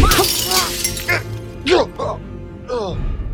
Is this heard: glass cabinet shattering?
yes